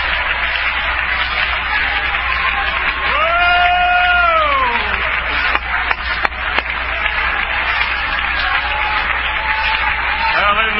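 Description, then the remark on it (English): An audience stands, clapping and cheering to praise God, in a steady, dense wash of applause and crowd voices for about ten seconds, with one voice rising above the rest in a long exclamation partway through. “Let's all stand and clap our hands and praise God's name.”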